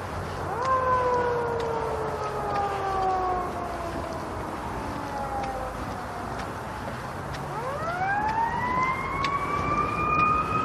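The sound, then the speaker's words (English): A distant fire truck siren wails on a still morning, its tone sliding slowly downward before sweeping back up, carried over steady low traffic rumble from a highway about half a mile away, with no talking. “It's a fire truck right there.”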